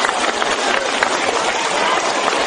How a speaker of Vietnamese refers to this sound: Vỗ tay.